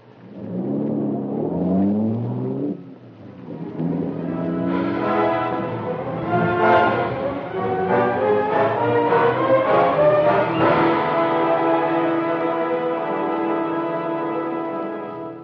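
A car engine revs and accelerates, its droning pitch climbing steadily as it pulls away through the gears, loud at first and continuing without any voices.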